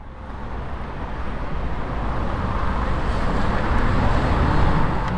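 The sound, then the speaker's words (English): Steady city street traffic in the Prenzlauer Berg district of northeastern Berlin, Germany, a dense, continuous rumble of passing vehicles that swells slightly louder over a few seconds, with no voices or distinct individual events standing out. “increasingly in districts like here in Prenzlauer Berg in northeastern Berlin, big numbers of commuters instead decide to take a bike”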